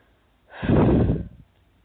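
human body sound, deep breathing

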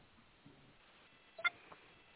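signal or alarm, telephone call connecting tones

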